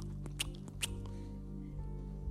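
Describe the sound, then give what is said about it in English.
A person imitates a cow chewing its cud: a few quick, wet mouth smacks and clicks in an uneven rhythm, fairly quiet over a steady low hum, with no talking. “I was chewing, making it as if I was a cow.”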